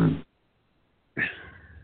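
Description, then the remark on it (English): A foghorn sounds twice: a short, clipped blast, then a second of silence, then a longer, loud blast with a steady tone that slowly fades. No one speaks. “At the sound of a foghorn.”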